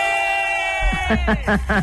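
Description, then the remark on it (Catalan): Excited shouting erupts as the first prize of a magic competition is announced: one long, held cry gives way to four loud, rhythmic whooping yells in quick succession. “De qui són aquests crits?”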